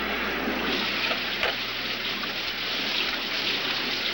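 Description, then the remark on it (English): Steady rain pours down in a dense, continuous hiss with a low rumble beneath, and a brief sharp knock sounds partway through. No voices are present. “Pulling his jacket around him, he hurries through the rain to his car and gets in.”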